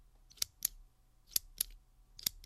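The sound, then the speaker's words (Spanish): Crisp mechanical clicks from a twist pen being turned to extend its tip, arriving in three close pairs with short pauses between, sharp against a quiet background with no talking. “Bolígrafo al girarse para que salga la punta.”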